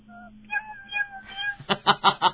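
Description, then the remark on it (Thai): A person imitates a soft, cute cat meow with high, drawn-out sliding tones, followed by four quick rhythmic bursts, fairly loud, with no speech. “ไหนลองทำเสียงเมี้ยวๆเป็นแมวน่ารักสักตัวหนึ่งหนึ่งสองสามแอคชั่นเฮ้ยมันดูเป็นแมวซนนะครับขอเป็นแมวแบบน่ารักเรียบร้อย1 2 3”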